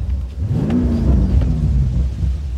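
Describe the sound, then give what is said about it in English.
A car engine rumbles loudly and continuously, its pitch climbing and easing as it revs while driving on smooth, undulating roads in the Palos Verdes hills, with a deep, steady low-end drone underneath. “They are the platonic ideal of driving roads, the video game version of reality.”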